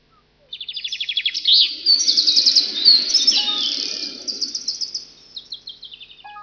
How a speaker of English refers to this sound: I can hear birds. Yes, we're in Bird Park.